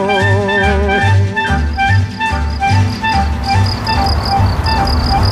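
Crickets chirp steadily, a dense, rhythmic pulsing of shrill trills that repeats over and over without pause, with no voices present.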